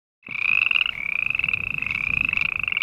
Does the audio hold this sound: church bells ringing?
no